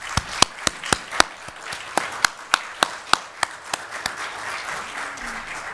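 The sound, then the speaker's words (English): An audience applauds steadily for several seconds to thank standing military veterans for their service, a soft wash of many hands under a string of sharp claps that ring out prominently in a quick, fairly even rhythm; no one speaks. “And I would just like to ask as we begin, if you have served in the military to defend our country, if you would stand up, we'd like to applaud you and thank you for your service.”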